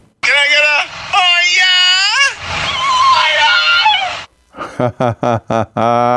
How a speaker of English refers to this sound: Here's a guy asking his dog to say, "Oh yeah," or "Oh yeah," and the dog delivers on cue.